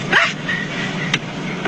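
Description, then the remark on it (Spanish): A single short, high-pitched dog bark rings out near the start, followed by a couple of faint clicks over a steady background hum. No one speaks. “se sube a un Uber y a la hora que esta perra empieza a hablar, pues va de perro, pues ¿qué quieres que haga?”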